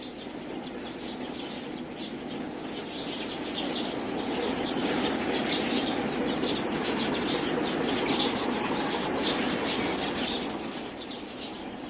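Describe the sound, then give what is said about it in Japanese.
A large flock of sparrows returning to an island from town on a summer evening chirps and chatters in a dense, continuous wash of overlapping calls, steady and fairly loud throughout, with a faint rustle of wings. “絵をあさりに町へ行っていたスズメが島へ帰ってきた。”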